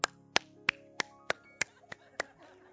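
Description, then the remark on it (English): A man demonstrates how a woman clapped behind him during worship: eight sharp, crisp hand claps in a steady, quick rhythm of about three per second, each fairly loud and similar in strength, over a faint low hum. “Then she would be behind me, then she claps like this.”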